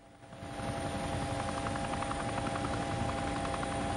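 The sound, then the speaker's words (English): A helicopter flies over the ocean as the pilot searches the water, its loud, steady rotor chop and engine whine swelling in within the first half second and holding constant, with no voices. “The ocean extends beneath the helicopter, the pilot searching its vast blue expanse.”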